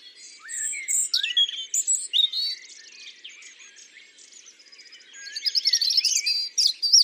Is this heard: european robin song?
yes